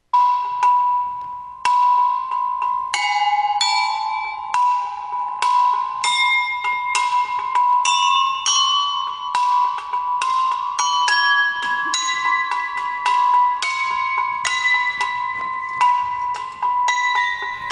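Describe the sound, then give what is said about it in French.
Small bells hung on a bottle rack, an instrument called a marcellophone, are struck one after another in a steady, chime-like sequence, their bright tones ringing and overlapping over a sustained hum, fairly loud, with no talking. “Et ce qu'on entend, en fait, c'est sur un porte-bouteille avec des cloches”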